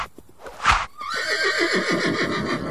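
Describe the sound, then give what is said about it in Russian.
A white horse gives a loud, drawn-out neigh, its high whinny quavering in rapid pulses that slowly drop in pitch, just after a short breathy snort. No one speaks. “Бросились они к перине, и тут Шьер-батор опередил их, подлетел на белом коне, ударил по постели алдаспаном и рассек вдоль и поперек.”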